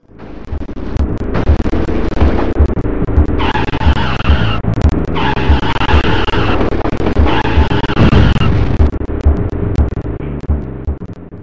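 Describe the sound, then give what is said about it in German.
Retro Super Nintendo racing game audio with a constant droning engine and repeated bursts of high, squealing tire skids, loud, with no talking. “Und das Spiel heißt RPM Racing, ist ein Rennspiel.”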